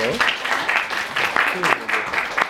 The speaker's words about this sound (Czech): Tak ještě jednou zatleskáme